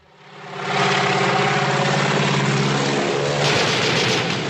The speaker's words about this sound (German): Eine grausilberne Propellermaschine fliegt nur wenige Meter über eine einsam gelegene Asphaltstraße. Das Flugzeug treibt den Hauptdarsteller Cary Grant geradezu vor sich her, schießt immer wieder auf ihn.